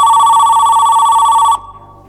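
A landline telephone in a living room rings loudly in one steady, buzzing burst of about a second and a half, then cuts off abruptly into quiet room tone.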